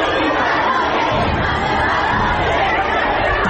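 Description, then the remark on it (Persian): A loud crowd of school students shouts protest cries together in a dense, continuous roar, with overlapping yells and no single clear speaker, at a school in Tehranpars, Tehran. “این فریادهای اعتراضی دانش آموزان مدرسه‌ای در تهران پارس.”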